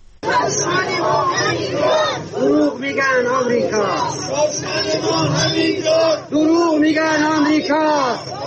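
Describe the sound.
A large crowd of protesters in Iran chants slogans in unison, such as "The oil money is lost, spent on Palestine", loud and rhythmic, with voices rising and falling in repeated phrases throughout, a dense roar of many people shouting together.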